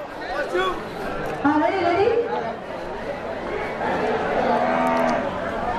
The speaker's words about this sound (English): There was her first moo of the day. Yeah, you're a movie star now. Cow. She's all purple.